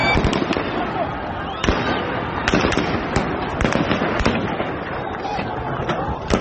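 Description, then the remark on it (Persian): Rapid, irregular gunshots crack out one after another, sharp, as security agents in Shiraz fire toward protesters while fleeing, over a constant loud outdoor din with indistinct voices mixed in. “گاهی مثل این تصاویر در شیراز، ماموران امنیتی هنگام فرار به سمت معترضان شلیک کردند.”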